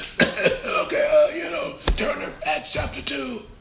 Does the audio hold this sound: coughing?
yes